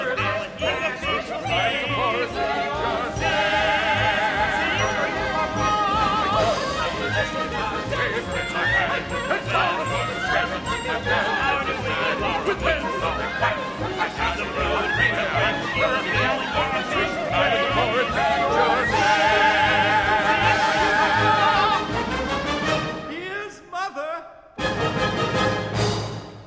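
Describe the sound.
A show-tune ensemble number from a cast recording, several voices weaving overlapping lines over a full, busy orchestra, loud and continuous before cutting off near the end with a short sparse tail.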